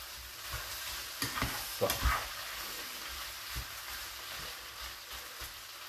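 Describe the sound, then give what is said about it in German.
Food sizzles steadily in a frying pan while a utensil stirs through the whole pan, scraping and clacking in several short bursts over a continuous hiss, moderately loud, with no talking. “Dann gehen wir nochmal hier um durch die ganze Pfanne durch.”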